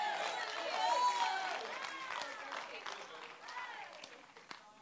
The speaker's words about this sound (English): I feel the applause all the way to the back row on that one.